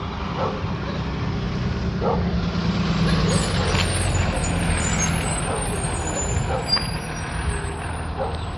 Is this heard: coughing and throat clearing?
no